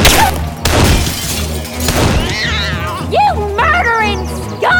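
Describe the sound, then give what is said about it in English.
Bulky photographic equipment on a tripod crashes to the street after a bullet knocks out a tripod leg, with several clattering, shattering impacts in quick succession, followed by high squealing, wavering tones. “One of her slugs knocked one of the tripod legs out from under the camera and sent the equipment crashing to the street”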